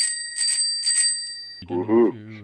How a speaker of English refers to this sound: I love that bell.